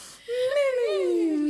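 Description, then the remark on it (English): A single drawn-out, whiny vocal tone rises slightly and then slides downward: a voice mimicking a cartoonish snore, fairly loud and heard alone. “He is a tweet that was like, I don't know him, but I saw Drake the type of nigga to say me when he's snoring.”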